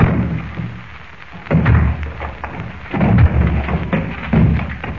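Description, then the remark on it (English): A door is battered down with bare hands in three heavy, booming thuds spaced evenly about a second and a half apart, each leaving a low rumbling crash over a steady background hiss. “Well, what you used to break down that door with?”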